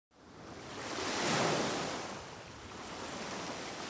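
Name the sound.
sea waves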